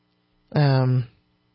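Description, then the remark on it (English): A Nest security camera, left on, sounds its alert chime once: a loud, steady, buzzy electronic tone lasting about half a second, then cutting off, with a faint low hum underneath. “If by the way, that chiming sound was my Nest cameras, which I left on.”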